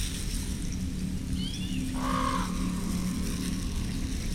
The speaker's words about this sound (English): Now allow yourself to relax into the sounds and open up to Raven's call.